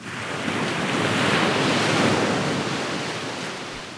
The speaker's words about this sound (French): La marée montait et s'avançait sur les galets, avec un bruit de chaîne et de sanglots.